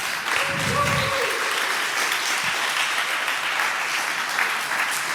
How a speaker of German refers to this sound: Auch einen großen Applaus für die Jungs und dreht euch dabei bitte um.